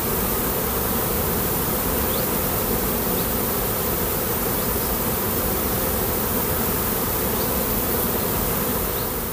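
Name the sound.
bees buzzing at beehives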